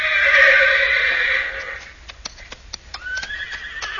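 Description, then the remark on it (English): A horse named Thunder lets out a loud, high whinny that wavers and fades over about two seconds, followed by a few sharp hoof clops and a thinner, rising neigh near the end. “What's the matter, Thunder? Oh, boy. Stone in your hoof?”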